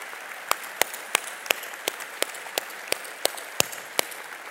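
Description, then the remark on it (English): Congregation applause thanking the SRC Kids volunteers at a morning church service. A steady wash of many hands clapping, with a dozen or so sharper, louder individual claps popping out irregularly above it, sustained evenly throughout without voices. “And we want to say thank you with a hand clap.”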